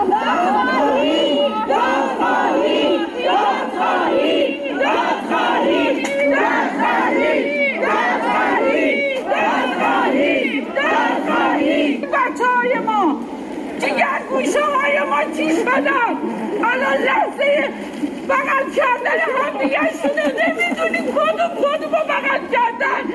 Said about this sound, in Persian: همچنین خانواده های قربانیان این حادثه با در دست داشتن عکس قربانیان و شاخه های گل در فرودگاه امام فریاد دادخواهی سر دادند.